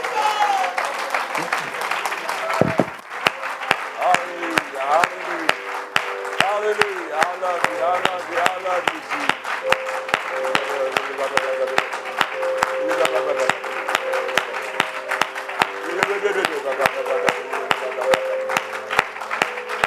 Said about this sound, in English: Why don't you clap your hands and magnify the name of the Lord just for a moment.